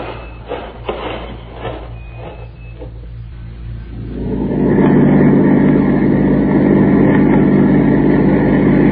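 A truck engine idles with a low, steady rumble alongside a few faint knocks, then revs up around the midpoint into a louder, sustained roar that holds to the end. No one speaks.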